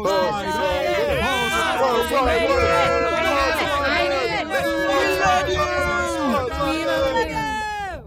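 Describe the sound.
A dense crowd of many overlapping voices cheers and whoops continuously, a loud excited hubbub with rising, squealing calls that fades slightly at the end.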